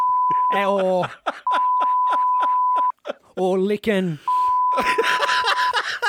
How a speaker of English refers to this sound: We should still beep that out. We should keep that out of the broadcast.